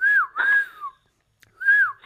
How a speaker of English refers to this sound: Whistle if you can hear me